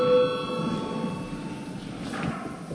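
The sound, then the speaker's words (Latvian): A steady electric bell in a parliamentary chamber, rung after debate closes and before a vote, rings continuously for the whole stretch, a sustained metallic tone with bright overtones over a low rumbling background. “Lūdzu zvanu.”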